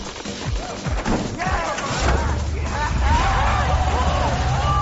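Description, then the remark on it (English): A few heavy thuds give way to a rumbling vehicle and a loud, wavering high-pitched squeal like brakes screeching, with a babble of voices in the background. “Those brakes!”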